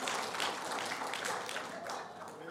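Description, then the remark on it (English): An audience claps in a steady, dense wash of applause lasting a couple of seconds, loud and even throughout with many hands overlapping and no clear individual beats. “That's when y'all clap and let me think for a second.”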